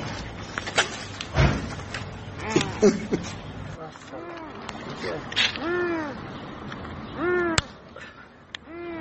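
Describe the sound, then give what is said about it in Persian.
A cat with its neck stuck in a hole meows repeatedly in drawn-out, distressed cries while several people, a family in Lorestan trying to rescue it, talk and move around nearby. “در اینجا هم تصویری می‌بینید از تلاش یک خانواده در لرستان برای نجات جان یک گربه که گرفتار شده و گردنش در حفره‌ای گیر کرده.”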